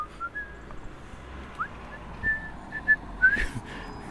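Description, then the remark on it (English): A person whistles a few short, thin notes of Jingle Bells, fairly quiet and spaced out, over a steady low background hum with occasional rustling bumps. “Whistling jingle bells.”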